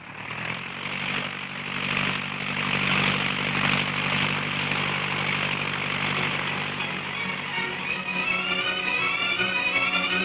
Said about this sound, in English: I'll get in the plane. All right, boss, I get in. All set? May we? We're off.